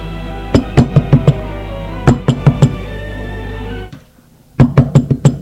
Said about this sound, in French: On a frappé à la porte.